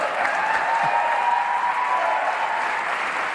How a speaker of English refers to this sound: Needless to say, that wild applause was only coming from, you know, one side of the chamber, and I really thought you could hear everybody yelling "Oh snap!" all at once.